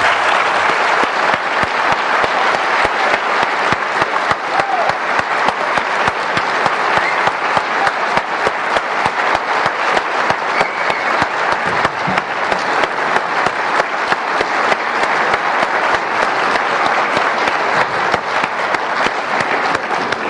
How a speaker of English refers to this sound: I ask now that you give a round of applause to both speakers.